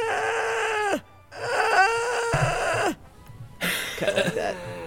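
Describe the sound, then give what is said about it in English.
A human voice imitates a cat that has lost its voice from yowling, giving three hoarse, croaking, drawn-out, strained cries that waver in pitch and sound almost like bleating, separated by short pauses. “What a lost voiced cat would sound like? Do they just kind of croak?”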